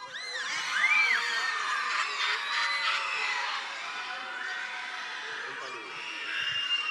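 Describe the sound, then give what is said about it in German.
A group of people acting as monkeys who carry off Mogli in a scene shrieks and hoots, high, overlapping squeals rising and falling in a loud, chaotic jumble that runs for several seconds, with a few giggles mixed in. “Im Handumdrehen packen die Affen Mogli und verschwinden kreischend in den Baumwipfeln. Noch einmal kurz kreischen.”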